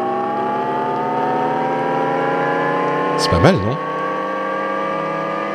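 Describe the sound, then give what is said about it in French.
A Jaguar electric car's artificial driving sound: a steady, layered synthetic hum that slowly climbs in pitch throughout, with a voice briefly speaking over it partway through. “Donc, les voitures Jaguar, ils ont révélé le bruit qu'ils allaient faire. Attends, je vais jouer ça.”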